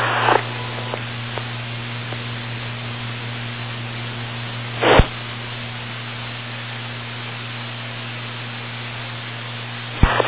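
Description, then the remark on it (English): Steady radio static hisses with a low electrical hum beneath it, broken by three short, louder bursts of noise, like squelch openings, at the start, middle and end, heard on a radio tuned to public service agency channels. No one speaks. “Above the noise floor and the squelch, and we start to hear some changes on these public service agencies.”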